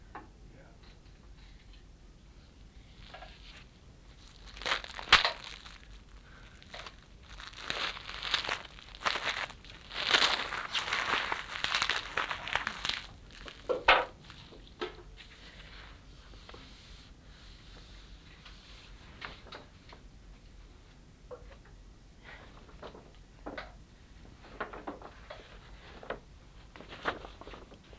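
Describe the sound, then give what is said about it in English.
Multicoloured paper crinkles and rustles in irregular bursts while something is wrapped, swelling to a dense, scratchy stretch in the middle with a brief tear, then fading to sparse ticks and crackles. “Well, it's certainly different paper.”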